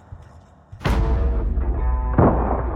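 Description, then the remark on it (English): Gunfire from guards shooting at a beast erupts in two heavy bursts, the first loud crack followed by a rolling, booming tail and a second blast a moment later, both thunderous with no voices. “Gunfire. The guards are firing on a beast that come out of the star globe.”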